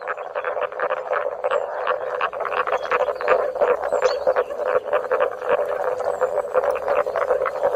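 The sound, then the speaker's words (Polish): A dense, steady chorus of calls from the amphibian known in Polish as the huczek, with booming, hooting notes repeating and overlapping throughout at a fairly loud, even level. No one speaks. “ale też, drodzy Państwo, właśnie ten płaz nazywany jest tak zwanym huczkiem, a huczek chyba od tego huku, jaki wydaje, od tego huczenia, które teraz Państwo także słyszą.”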